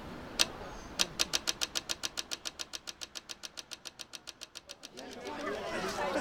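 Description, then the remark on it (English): A rapid, steady ticking from a pedestrian traffic light in Prague, heard just after crossing the Manusov Most bridge, sharp clicks in quick succession that gradually grow quieter as the walker moves away, before stopping, leaving a wash of street ambience. “When I finish crossing Manusov Most, a bridge that leads to Charles University, the tick of a traffic light fades behind me.”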